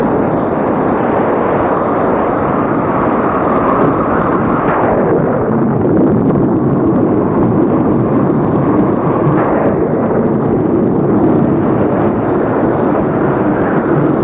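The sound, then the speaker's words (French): A violent thunderstorm breaks out unexpectedly at the end of the day and roars without pause, a dense wall of rain and wind with deep rolling rumbles swelling around the middle and again later on. No one speaks. “Fin de journée, le temps change et éclate, sans qu'on ait pu le prévoir, un violent orage.”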